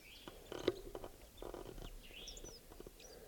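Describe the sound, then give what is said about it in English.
Soft, quiet song of a wild bird, probably a male, up in a tree: a few thin high whistles and short chirps, scattered irregularly over a faint background with occasional light clicks and rustles. “He's in a soft song. It's probably a male.”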